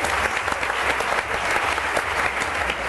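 An audience claps steadily for a few seconds, a dense, even wash of many hands at a fairly loud, constant level with no voices over it, applauding actress Marisol Aznar as she is introduced as a guest on the programme Ilustres Ignorantes.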